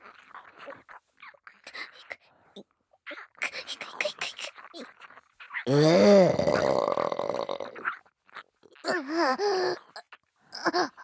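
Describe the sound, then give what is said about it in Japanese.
A loud, drawn-out burp after drinking a whole drink rumbles up midway, lasting a couple of seconds, framed by softer breaths, mouth noises and brief vocal sounds before and after. “ゲップと一緒に行っちゃった”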